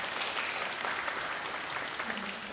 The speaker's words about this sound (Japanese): またこの会場を提供してくださいました広島流れ川教会の皆さんに大きな拍手をお願いします。